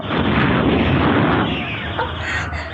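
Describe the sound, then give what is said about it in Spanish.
A loud, steady roar of isolated explosions heard in the distance, a dense rumbling blast that fills the whole clip and eases off slightly toward the end, with no voices. “A lo lejos, se siguen escuchando los gritos de terror y las explosiones aisladas.”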